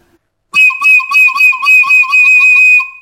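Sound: hunting whistle call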